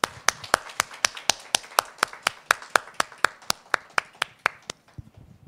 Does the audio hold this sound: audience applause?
yes